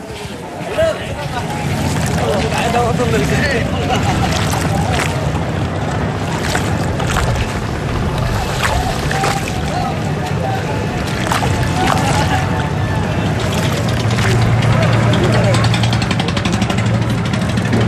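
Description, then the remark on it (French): Busy waterside ambience in the port of Dakar, at the riverside, with boat engines droning, water lapping and a steady wash of wind, while indistinct voices murmur in the background throughout. “On est dans le port, au bord de la rivière.”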